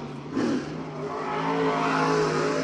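A race car engine rumbles as Bobby Pierce drives his car back to the pit stop after a few laps at the Farmer City raceway, rising in pitch and loudness as it revs, with a steady throaty drone throughout and no voices.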